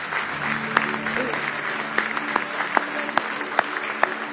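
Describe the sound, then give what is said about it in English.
An audience at a church worship service applauds steadily in praise of the Lord, a dense wash of many hands clapping with a few sharper claps standing out, sustained throughout without voices on top. “Give the Lord one more hand clap of praise tonight.”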